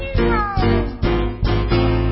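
A cat meows loudly, several drawn-out, wavering meows following one another in quick succession with barely a pause between them, no voices present.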